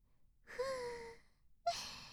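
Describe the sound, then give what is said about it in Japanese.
Two soft, airy breaths blown into the listener's ear in quick succession, the first a longer sighing exhale with a faint voiced tone, the second a short breathy puff with a brief vocal catch. “私たちの吐息くすぐったい？”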